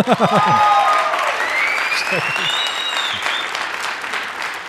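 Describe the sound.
A crowd applauds steadily for several seconds, the dense clapping joined by a few whistles and cheers, with a voice briefly heard at the start.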